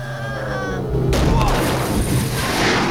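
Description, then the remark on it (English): The whining, revving engine of Jack's speeding car is suddenly overtaken by a loud burst of gunfire as the heavies fire at it, forcing it to change direction, followed by continuous harsh, noisy crackling and booms that stay loud until the end. “and the heavies fire at Jack, forcing him to change directions.”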